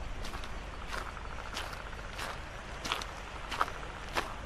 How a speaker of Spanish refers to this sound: El rumor de los pasos es solo un leve crujido de grava comprimida por las sandalias.